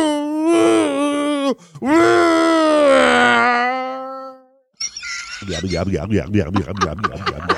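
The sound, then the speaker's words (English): A voice imitates a car idling as it goes back into the driveway: first a long, sustained, wavering vocal drone, then a brief pause and a rapid, rhythmic, pulsing burble like an idling motor, fairly loud throughout. “The car goes back into the driveway. And do the idling sound again.”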